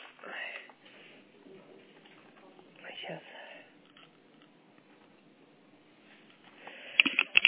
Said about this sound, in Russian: Ой, да что ж такое? Будь здоров. Ой, спасибо. Называется, сколько раз можно подряд чихнуть?